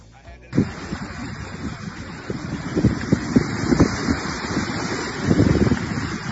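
sea water

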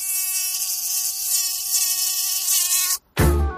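mosquito buzzing

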